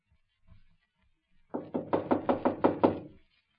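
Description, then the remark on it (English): A quick, steady run of about eight firm, fairly loud knocks on the locked door of the Chiyuk Tong headquarters, preceded by a couple of faint low thumps and then silence. “Here, I'll try the door. Locked.”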